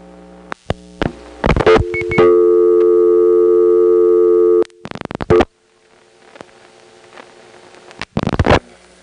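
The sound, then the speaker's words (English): A busy signal from a Crossbar 5 telephone exchange in Marietta: a steady, buzzy tone held for a couple of seconds, framed by loud crackling clicks and pops on the line, with no one talking. “Now here's a busy from the Crossbar 5 in Marietta. There's sort of a crackly, crisp sound to it, which is very typical for Crossbar 5.”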